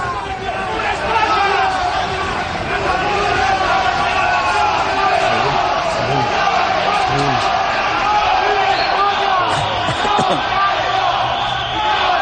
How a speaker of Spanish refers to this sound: Además de los independentistas, también se han concentrado frente al Tribunal Supremo una veintena de personas con banderas españolas que han increpado a los miembros de la mesa con gritos de Viva España.